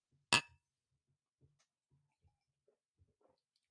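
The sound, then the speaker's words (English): A single bright clink of glasses of SodaStream-carbonated water touching in a toast, sharp, ringing briefly before fading into near silence with a few faint soft knocks afterward. “All right, carbonated with the SodaStream. The same exact water. Cheers. Cheers.”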